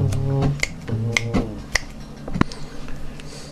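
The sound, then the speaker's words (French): A few crisp finger snaps ring out at a steady, unhurried pace, each a short bright click, over a low humming tone that fades away partway through. “Alors, laissez-moi préparer en trois claquements de doigts l'enregistrement.”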